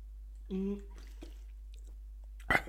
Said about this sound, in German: So. Ja, und ich hoffe, dieses Schlucken ist mit drauf, weil das so abartig ist. Ja, genau so.